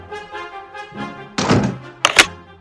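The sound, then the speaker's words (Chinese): A doctor shuts a door with a solid thunk, followed by a sharp metallic click and rattle as he turns the lock, after some soft scraping movement. “医生把门锁上，安静地坐在椅子上说”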